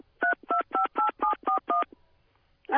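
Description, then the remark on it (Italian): Seven telephone keypad tones are dialed in a quick, steady rhythm, each a short bright two-pitched beep, followed by a brief silence and then the onset of another sound. “Se non si ha ancora la soluzione, digitare Jolly.”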